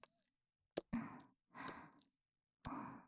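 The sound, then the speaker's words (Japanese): Soft, quiet breathing: three slow, airy exhales with short pauses between them, preceded by a couple of faint mouth clicks. No one speaks. “では、このまま静かな息遣いにいたします。”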